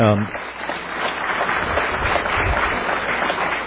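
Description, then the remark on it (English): An audience in a church claps steadily to thank the Charnock Institute of the Bible, a dense, even crackle of many hands that keeps up at a moderate level throughout. A brief bit of voice shows at the very start. “We'll tell them we clapped.”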